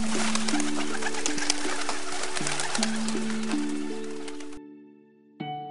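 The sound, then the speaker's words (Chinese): A dove coos in low, rounded tones over a rustling, fluttering backdrop that cuts out abruptly near the end, leaving a brief softer coo. “挪亚又等了7天，他再次放出鸽子。”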